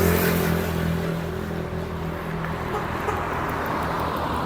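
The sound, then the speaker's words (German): Steady low rumble of road traffic, with cars passing and an engine droning at a constant level throughout, no pauses or quiet gaps. “Diesen scheiß Autos.”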